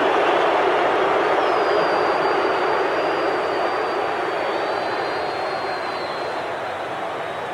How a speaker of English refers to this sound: Touchdown toss from Otten to Miller, another from Otten to Allred, and listen to the crowd roar.